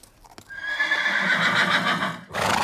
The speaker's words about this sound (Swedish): Fint här och så ska hästen in på dansgolvet. Ja, och till grannen. Där grannen sov så red han in med hästen